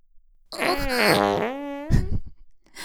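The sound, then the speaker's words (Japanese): A long, loud fart with a wavering, pitch-bending buzz, followed by a short sharp burst and a faint trailing puff; no one speaks. “ほら、僕ちゃんの大好きなおならがいっぱい降ってくるわよ。”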